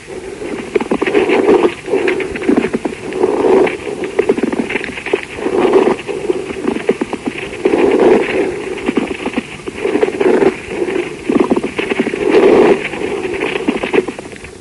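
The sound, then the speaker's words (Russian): A pleural friction rub through a stethoscope: rough, grating, creaky bursts recurring about every two seconds with each breath, fairly loud and steady over a low hiss, with no voices. “Прослушайте шум трения плевры.”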